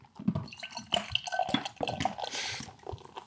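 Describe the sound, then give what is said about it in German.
Golden, clear, fully filtered beer with added carbonation pours into a glass, with gurgling splashes, small bright clinks of liquid against glass, and a hissing fizz of foam rising toward the end. No one speaks. “So klingt es beim Eingießen.”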